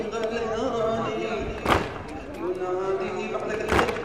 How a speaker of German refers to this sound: In ritueller Trauer um die vor 1400 Jahren verlorene Schlacht von Karbala und die Tötung ihres Hoffnungsträgers Hussein klopfen sich die jungen Männer immer wieder auf die Brust.